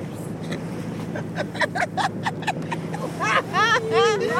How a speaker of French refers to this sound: un bateau qui arrive, là, on va se prendre un truc.